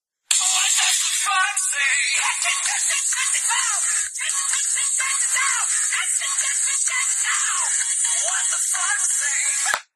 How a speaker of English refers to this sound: So I can let you hear what the alarm sounds like. Okay, here we go. This is the alarm that I wake up to every morning.